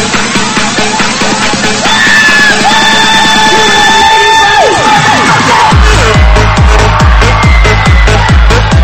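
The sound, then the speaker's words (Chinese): A loud audience screams and cheers continuously, a dense wall of excited voices, with rhythmic low thumping joining in over the last few seconds. “来，准备好你的尖叫声！”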